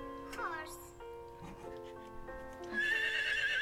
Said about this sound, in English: Horse.